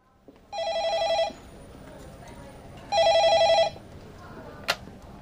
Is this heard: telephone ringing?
yes